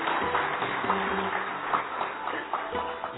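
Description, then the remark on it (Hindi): A crowd at an event programme applauds Mrs. Sehgal as she stands, steadily for about three seconds, a dense, continuous patter of many hands clapping, with faint voices murmuring underneath. “Mrs Sehgal का भी हम जोरदार ताली से हाथ।”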